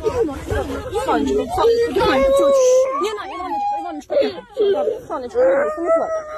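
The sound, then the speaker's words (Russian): A child cries and whimpers in wavering, high-pitched wails, with other voices talking and murmuring underneath throughout. “Не плачь, будь ласка. Все буде добре.”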